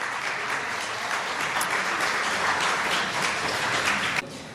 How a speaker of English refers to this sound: but at long last, we're here to celebrate the start of construction of the Caltrain San Francisco Bike Parking Facility. Let's have a round of applause for that.